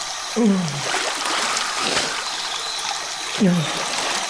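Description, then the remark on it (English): Steady running water rushes, like a tap pouring into a sink, with two short descending gurgles as it swirls down the drain. “The curdled remains of lunch slopped into the clean swirl of water and disappeared down the drain with it.”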